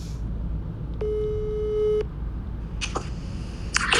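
A single steady ringback tone on a phone line sounds for about a second, followed by silence and a few faint rustles over low background noise.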